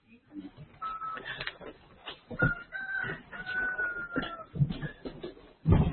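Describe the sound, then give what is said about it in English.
A pet rooster crows in long, drawn-out calls, heard through an open window, over scattered household clatter and thumps. “I don't know if you guys are able to hear my rooster, but we'll see.”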